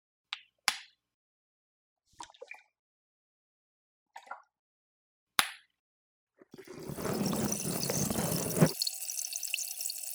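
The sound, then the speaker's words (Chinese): A few sharp, wet clicks and drips, then a loud, steady fizzing hiss of specially made bubble water applied inside the ear canal, bubbling and crackling in the ear, which thins to a higher, quieter fizz toward the end. “气泡声结束了之后，要告诉我哦。”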